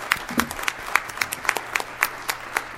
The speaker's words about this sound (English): I think it needs an applause.